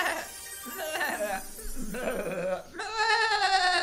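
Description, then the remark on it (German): Several goats bleat in quick succession, wavering, nasal cries overlapping, ending in one long, loud sustained bleat. “Und sie reckte ihren Stab in die Luft und schlagartig waren alle Dorfbewohner zu Ziegen verwandelt.”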